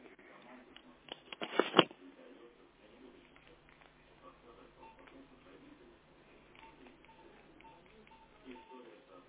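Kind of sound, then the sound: signal or alarm, mobile phone keypad tones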